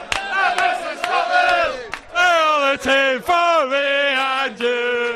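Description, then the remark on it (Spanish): A crowd of fans chants loudly in unison in the rain, holding long sung notes in rising and falling phrases with brief breaks between them, over a rough background of cheering voices. “Pues ahí los tienes, Corro. Están animados.”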